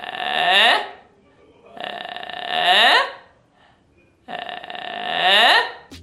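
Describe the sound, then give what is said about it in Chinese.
A singing exercise raising pharyngeal voice: three gravelly, creaky vocal-fry sounds, each starting low and rough, then flipped sharply upward into a higher pitch with a small tail at the end, separated by short pauses. A single voice, loud and clear. “第四步，将咽音拉高，我们紧接着上一步的气泡音，把这个气泡音呢往高音去甩，甩出那么一丢丢一内内的小尾巴，像这样。”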